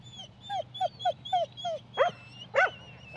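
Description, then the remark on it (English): Several farm dogs yelp and whimper in a quick run of high, whining cries, followed by two sharper barks, with a low hum of background noise and no talking, at the Mayfield AMP Showgrounds in mid-Canterbury before the 66th annual Ashburton sheep and cattle dog sale. “I am at the Mayfield AMP Showgrounds, and this is where a farm dog sale is about to happen.”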